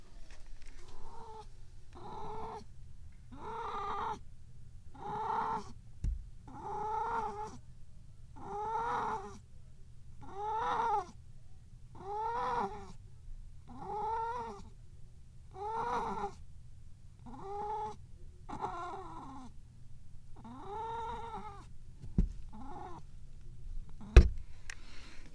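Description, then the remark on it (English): A cat yowls over and over in a steady rhythm while defecating in her litter box in a bathroom, roughly fifteen drawn-out, moaning calls, with a few sharp clicks near the end and no talking. “Oh, wait, here we go. Wacky kitty noises.”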